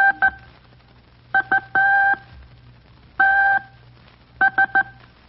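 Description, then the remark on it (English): A Morse code telegraph message going over the wire, quoting a message from an American general, tapped out in a steady, high-pitched tone: groups of short beeps and longer dashes separated by brief pauses, loud and clear over a faint low hum, with no talking. “Now, you kids are to identify the general from hearing his message as it went over the wire in Morse code.”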